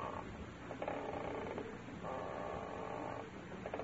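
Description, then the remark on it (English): A wooden rocking chair, Mrs. Davis's rocker, creaks in slow, steady back-and-forth strokes, each long groan repeating at a moderate volume with no voices over it. “My bones are rusting. Oh, it's the rocker.”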